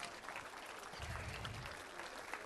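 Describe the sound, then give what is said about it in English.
A crowd claps steadily, a dense wash of overlapping hand claps that swells slightly in the middle and carries on without any voices, a morning round of applause for 17 children. “Why don't we give our 17 children a round of applause this morning?”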